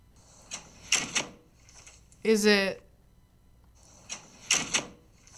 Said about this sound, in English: Is it your side door? Yeah. Oh my god, it's literally my side door. I did this one so fast so you guys wouldn't hear it.